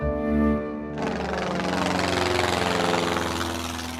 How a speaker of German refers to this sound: Mit dem Flugzeug.